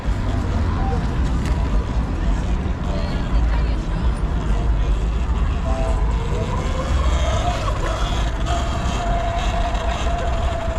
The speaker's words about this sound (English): You see, we got a helicopter above.